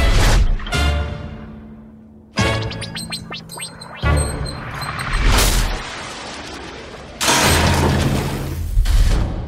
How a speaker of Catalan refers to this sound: Declaro inaugurats els focs artificials.